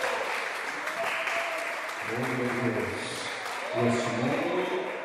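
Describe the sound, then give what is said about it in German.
An audience applauds during a church service as the pastor turns to face the faithful: steady, dense clapping that fills the whole clip, with a loud voice calling out over it in two bursts during the second half. “Dann wendet er sich unter Applaus den Gläubigen zu.”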